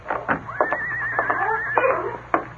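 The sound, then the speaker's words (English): A skittish horse hitched to a two-seated buggy in a street before dawn whinnies once nearby, a long quavering neigh lasting about a second, with a few dull knocks and thumps around it and low background noise. “To his surprise, he saw a horse and two-seated buggy nearby.”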